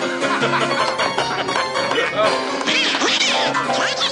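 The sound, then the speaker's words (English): A voice imitates a cartoon duck with a continuous, raspy, quacking babble that warbles up and down in pitch, loud for about four seconds. “Does anybody understand what this duck is saying?”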